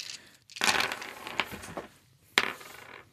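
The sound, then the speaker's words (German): Nine dice clatter onto a hard surface in a loud, rattling burst that trails off into scattered clicks, followed by a second sharp clatter near the end; no one speaks. “9 Würfel.”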